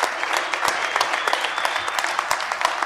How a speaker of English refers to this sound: A member of the National Soccer Hall of Fame. That's a round of applause in itself.